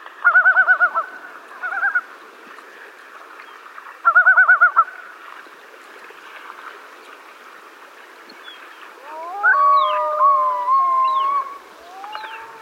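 Common loons calling on their lake, trying to drive off another loon: a couple of quick, repeated tremolo yodels early on, then overlapping rising wails and long moaning notes later, fairly loud against a faint background hiss.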